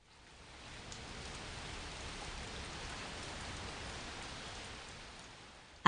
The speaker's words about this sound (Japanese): あ、雨。